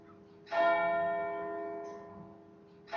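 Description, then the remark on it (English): A deep clock bell strikes twelve, its resonant tone ringing out and slowly fading before the next stroke begins, part of a slow, steady series of chimes heard clearly with no talking. “And seeing as the last time they struck an hour, they struck 11, so now they're going to strike 12.”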